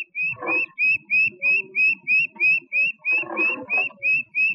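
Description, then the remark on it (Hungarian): A mechanical bird-call device imitates a coal tit, giving a steady, rapid string of about a dozen high, thin whistled notes, with low rattling and clunking from the device underneath. “Szénszínege.”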